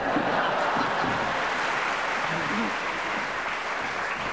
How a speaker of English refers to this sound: I should explain to our listeners that that extra loud round of applause was because Tony Hawks did get up and actually leave, pretending that he was off to Bakewell right now, and they thought the idea was so delicious